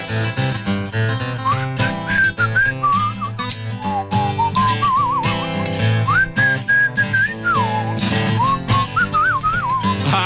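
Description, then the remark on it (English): A bright whistled melody glides and warbles up front over a full band accompaniment, sliding between notes with vibrato and no voices singing. “All right, I'm working on this whistle solo.”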